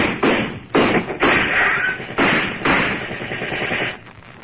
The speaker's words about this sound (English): Those cops are using riot guns.